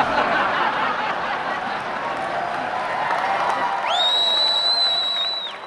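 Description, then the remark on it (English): A large crowd at a McCain campaign rally cheers and claps in a steady roar, then a loud, piercing whistle from a 51-year-old man rises sharply near the end and holds for over a second before fading. “The crowd's eating it up.”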